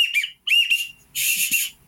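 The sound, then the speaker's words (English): A duck call whistle sounds a pintail-style whistle: a few short, high, trilling chirps, then a breathier, longer whistled burst, fairly loud with no one talking. “I always refer to them as a pintail whistle, and they're less than $10.”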